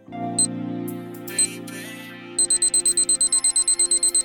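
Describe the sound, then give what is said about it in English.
A steady electronic hum with a couple of short clicks gives way to a rapid, evenly spaced run of bright beeping ticks, like a timer counting down, loud with no voices. “The clock starts now.”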